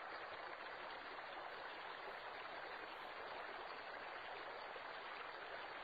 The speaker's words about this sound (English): From the heart of Eden flows a river, the river of life. Its life-giving waters run down a terraced hillside, creating rainbow-colored waterfalls.